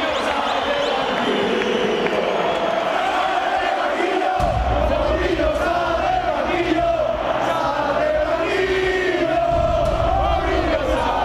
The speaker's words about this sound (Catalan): És el crit unànime d'un Camp Nou que espera amb ganes Mourinho i que al final no el veu.